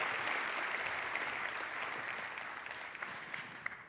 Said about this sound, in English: And if not, then a big round of applause for a great talk. Thank you very much.